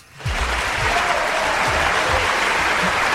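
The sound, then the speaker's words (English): A crowd applause sound effect: a dense wash of applause swells in quickly and holds steady and loud, countless claps blurring into a continuous roar with faint low thumps underneath. “And the crowd goes wild.”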